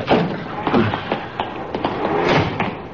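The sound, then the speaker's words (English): A Cadillac's car door being forced open in a nearly empty parking lot in the dark, a little after 10:30: a string of irregular thumps and jolting knocks over a few seconds, each a sharp hit, with a rough scraping bed of noise between them. “He's forcing the door.”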